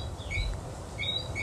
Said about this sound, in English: That is actually a whistling frog.